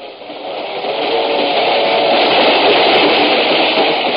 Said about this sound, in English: I got on a train for Plainville